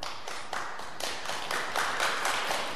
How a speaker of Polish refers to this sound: Rozumiem, że klaszczą ci, którzy chodzą z białą laską